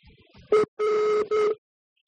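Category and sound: signal or alarm, telephone busy tone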